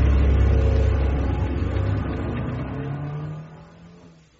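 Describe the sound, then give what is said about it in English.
A car engine in Beverly Hills roars with a deep, loud rumble as it revs up, then the sound recedes steadily as the vehicle pulls away and fades out. “You take the car. What a mess.”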